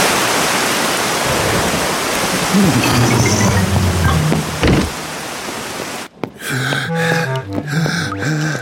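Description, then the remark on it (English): Heavy rain pours down in a dense, steady roaring hiss for about six seconds, loud, then cuts off abruptly as bright tonal music takes over. “It's just about to rain.”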